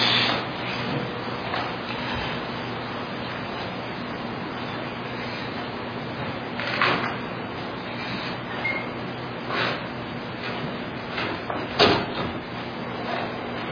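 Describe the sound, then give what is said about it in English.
A door that the wind has caught and blown open rattles and bumps a few times against a steady low hum of room noise, ending with a firmer knock as it is pulled shut; no one speaks. “would you catch the door? The wind has caught it and blown it open.”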